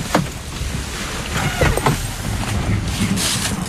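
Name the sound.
inside a car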